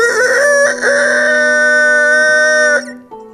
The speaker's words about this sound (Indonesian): Di pagi hari itu, si nenek terbangun dengan dibangunkan suara kokok ayam jago.